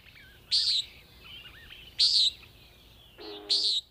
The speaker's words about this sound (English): The bird calls were from the Macaulay Library at the Cornell Lab of Ornithology, recorded by David Hare.